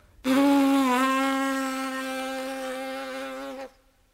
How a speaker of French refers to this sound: Tout mon diaphragme est là qui surveille la remontée de ce souffle échauffé. Il ne connaîtra aucune autre barrière avant mes lèvres vibrantes comme une abeille.